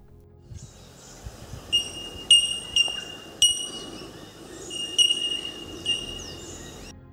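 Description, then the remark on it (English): Bell miner calls: a series of clear, high-pitched, bell-like 'tink' notes ringing out at irregular intervals over a soft, steady background hum, with no one talking. “Now compare this to the bell minor call.”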